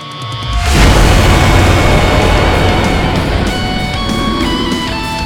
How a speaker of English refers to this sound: Crashes to the earth with an almighty boom, the rest of the black body going limp, dropping back down to the ground as the lights turn off, now back lifeless behind the military security barriers.